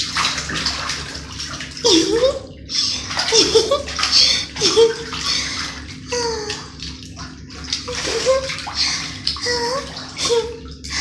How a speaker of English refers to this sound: Especially bubble baths. They're so much fun. Especially with all the cute little bubbles around me. And I get to splash a lot.